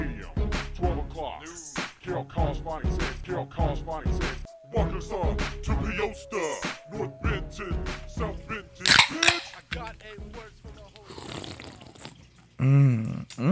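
Two cold beer cans are cracked open, quick sharp pops with a short fizzy hiss, cutting through steady talking and other background sound.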